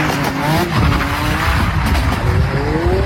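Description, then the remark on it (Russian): Cars decorated with garlands drift on night roads in the villages of Ulbroka and Ramava, engines roaring loudly while tires screech in long, wavering squeals; the engine noise and skidding stay constant for the whole few seconds with no talking. “Такие видео с машинами, украшенными гирляндами, которые выполняют трюки на ночных дорогах, все чаще появляются в сети.”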